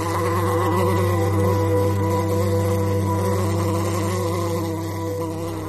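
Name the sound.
buzzing swarm of flies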